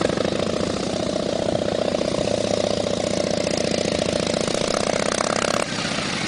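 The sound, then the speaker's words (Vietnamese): Deep, loud engines of two large Harley-Davidson motorcycles rushing up at an intersection rumble steadily with a throbbing low-pitched pulse, holding an even level for several seconds before easing slightly near the end. No one speaks. “Nhưng ngay ngã tư cuối cùng, chúng tôi lại nghe có hai chiếc xe mô tô lớn, tức là motorcycle hiệu Harley Davidson, đang chạy ào đến.”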